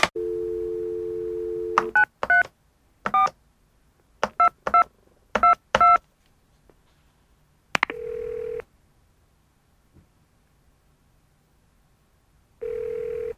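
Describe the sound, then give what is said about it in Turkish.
A steady dial tone plays, then a quick series of touch-tone beeps as a phone number is keyed in, in short bursts, followed by ringback tones with pauses between them. “Peki efendim, arkadaşları hemen arıyorum.”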